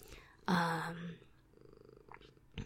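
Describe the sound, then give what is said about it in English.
A cat purring in the morning, a low steady rumble that swells loudly for a moment near the start, then settles into a quieter, continuous purr. “Cat, you're just full of purge this morning.”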